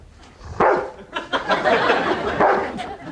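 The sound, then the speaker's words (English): A dog named Buck barks, a few sharp, loud barks spaced out over a couple of seconds with some rough, yappy sounds between them. “Good dog.”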